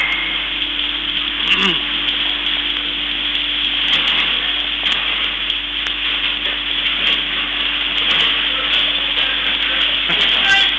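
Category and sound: nature, heavy downpour of rain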